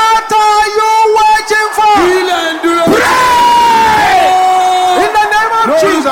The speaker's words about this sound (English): Brothers, can I hear you roaring like thunder? Everybody together now.